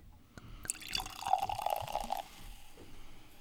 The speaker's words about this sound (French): Lui, il a beaucoup de bulles, très pétillant quand on le sert, mais tellement agréable.